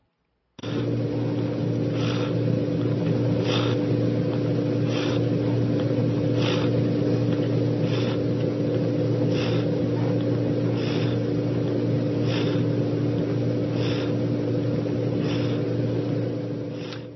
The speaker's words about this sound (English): And I don't know if you'll be able to hear him over the sound of the fan in the room, because the heater was on, but he was purring pretty loud for a cat that could hardly breathe.